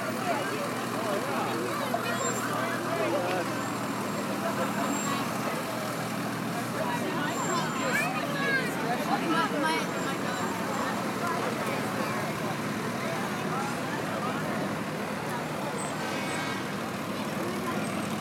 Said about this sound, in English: Boy likes those big fire trucks. I know. Huge fire trucks.